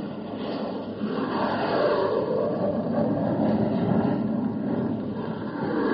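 A loud, steady jet-engine roar from two F-80 chase planes flying past to observe the X-1 on its flight through the sound barrier, filling the whole stretch with a dense rushing drone that swells slightly after the first second and holds without pause.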